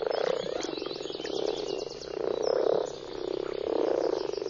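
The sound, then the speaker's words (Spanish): A dense chorus of frogs croaking continuously during their mating season, rising and falling in loudness in slow waves, with a rapid pulsing trill layered over it and no voices. “El apareamiento de las ranas dura unos pocos días.”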